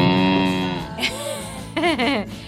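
A voice playing a sheep character imitates a cow, letting out a long, drawn-out moo, then a few shorter wavering moo-like calls, fairly loud, with no other sounds around it.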